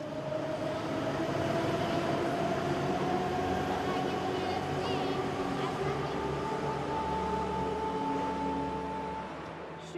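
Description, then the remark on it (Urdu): A metro train roars steadily through a subway station in Tehran, its electric motor whine slowly rising in pitch over a loud rumble, with a murmur of voices in the background before the noise eases slightly. “میں تہران کے metro station پر ہوں.”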